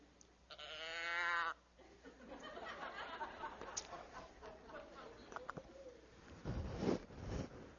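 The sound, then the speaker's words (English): A small deer call imitating a doe looking for a mate, used to lure a buck, gives a loud, nasal, wavering bleat of about a second, then after a long pause a second, lower and rougher bleat over faint background noise. “And he's going to come in, hopefully, or we'll use one of these little things that imitates what a doe sounds like when she's looking for a date.”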